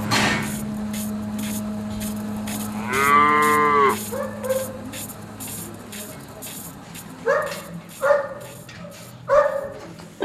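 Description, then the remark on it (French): Dairy cows from a herd of 50 moo inside a barn at morning milking time: one long drawn-out low call, then several shorter moos, over a steady mechanical hum of milking equipment, with occasional clanks and a dog's bark. “Vous avez combien de vaches? 50 vaches laitières.”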